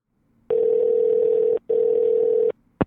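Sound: telephone dial tone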